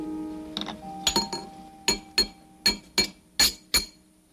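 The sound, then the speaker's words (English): A hammer strikes metal in a series of sharp, ringing blows, a few irregular at first and then settling into a steady rhythm of about six evenly spaced blows, bright, with no talking; the weight of the hammer sets the rhythm. “I guess it's because the hammer really does it itself.”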